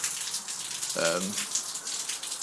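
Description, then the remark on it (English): Rainwater runs off a roof in a steady, even hiss that lasts throughout, with a short voiced sound, like a brief murmur, breaking in about midway. “There's water running off the roof.”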